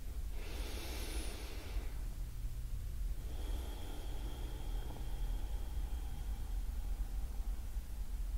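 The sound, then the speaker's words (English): Slow, deep breaths drawn in and let out by a seated person during a meditation, soft airy rushes over a low steady hum, with no talking. “Allowing your breath to fill the body, maybe even taking a few nice deep in and out breaths.”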